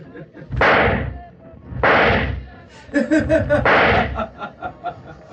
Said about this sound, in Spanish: Apunta con manos temblorosas y oprime el gatillo del revólver.